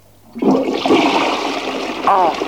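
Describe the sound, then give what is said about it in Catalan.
A loud water splash effect bursts in abruptly and keeps rushing and gurgling for about two seconds, with a brief vocal exclamation near the end. “Aigua.”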